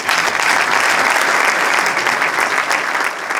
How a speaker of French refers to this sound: Mesdames, messieurs, je vous demande d'applaudir Monsieur …, s'il vous plaît.